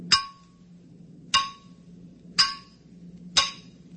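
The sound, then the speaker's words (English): Four sharp, ringing metallic bangs strike at a slow, slightly uneven pace, each clang decaying quickly over a low, steady hum. No one speaks. “Now start banging.”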